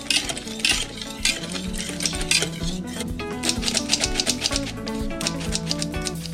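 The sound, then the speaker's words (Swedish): A spoon stirs batter containing baking powder in a bowl, making a steady run of scraping strokes and light clinks against the sides, fairly loud and continuous, with no voices. “Nu börjar det likna mer en smet än bara vatten eller vad man ska säga.”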